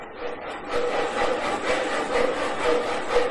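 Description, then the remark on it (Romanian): Two men work a two-man crosscut saw, rasping steadily through wood for the fire in a brisk back-and-forth rhythm, each stroke a gritty, ringing scrape. Several even strokes follow one another without pause, and no one speaks. “Beschia intră în funcțiune. Cei doi se privesc iscuditor în mișcare de dute vino.”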